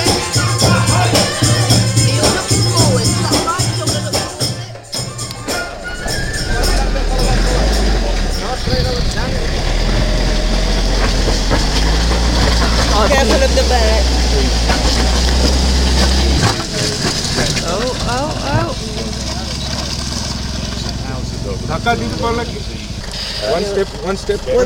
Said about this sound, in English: Wednesday the 29th of March, and the chaos in the background is because we're miles and miles up in the mountains of outside Kathmandu, and the minibus has got stuck in the mud, and they're trying to rev the wheels.